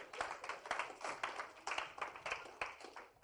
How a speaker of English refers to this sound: Yeah. Clap for the Lord Jesus.